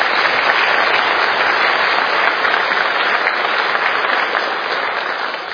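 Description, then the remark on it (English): A church audience applauds four people in a loud, steady wash of clapping that holds for several seconds, then begins to taper off slightly toward the end, with no voices standing out. “I'll give those four a round of applause for that.”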